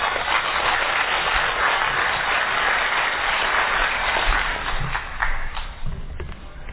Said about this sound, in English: So, fellows, let's give a round of applause for our first speaker,